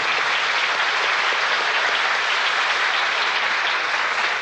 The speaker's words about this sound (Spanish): Gracias. Un aplauso para el artista.